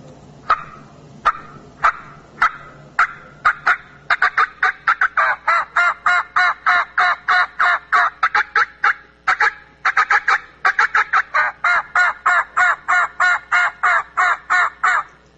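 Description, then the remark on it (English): A person imitates a wild turkey hen with a call, starting with a few sharp, spaced cuts that speed up into a long, rapid, excited run of loud yelps with no talking. “I'm going to do what we call some cutting and some excited hen yelps for you.”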